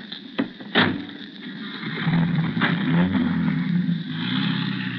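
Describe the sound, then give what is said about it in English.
A car door slams, then an engine revs up and the car pulls away in pursuit of another car, accelerating hard with a steady low roar that builds and holds, fairly loud. “Can you overtake it? I can try, sir. But Sir Graham Guthrie... He's in that car, kidnapped. Get in, sir. I'll do my best.”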